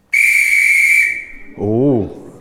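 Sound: whistle blowing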